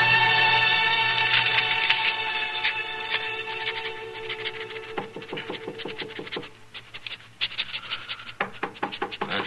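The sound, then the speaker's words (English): Sharp knocks on an office door come in several quick clusters over a sustained, droning musical backdrop, the raps growing more insistent toward the end. “Well, folks don't usually bother to knock at this office.”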